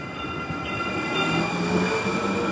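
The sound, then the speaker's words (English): A light rail train in Phoenix rumbles past, its steady low roar mixed with faint high-pitched wheel squeal and tonal hum, holding a constant loudness throughout with no voices. “Last December, Phoenix opened its first light rail system.”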